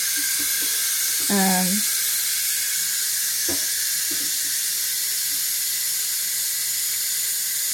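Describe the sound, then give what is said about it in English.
A pot of water heating toward a boil gives off a steady hiss throughout, with a few soft clicks and knocks and a brief tonal squeal early on. “I'm gonna get this water boiling.”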